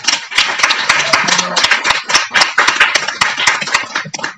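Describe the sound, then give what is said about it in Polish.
An audience claps together for the author of the book Kabaret Stodoła Nieodkryta at the inauguration of a jubilee year, in a dense, steady burst of applause, with many sharp individual claps standing out from the continuous patter before it begins to thin out at the end. “Brawa, ukłony i wdzięczność dozgonna dla”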